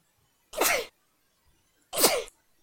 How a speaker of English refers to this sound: excuse me, I might sneeze. Hold on.